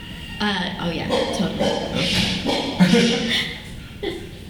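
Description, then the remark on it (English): The next-door neighbour's dog barks and whimpers in the background, a few short yelps and whines mixed with murmuring voices, moderately loud. “My next door neighbor, Pups. Dogs are the best.”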